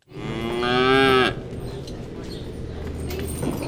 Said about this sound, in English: These are real cows.